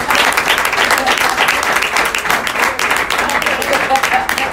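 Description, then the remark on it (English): An audience applauds a woman speaker after her talk, steadily for several seconds, a dense, loud wash of many hands clapping at once with no pauses or voices breaking through. “Okay, once again, another big round of applause for her.”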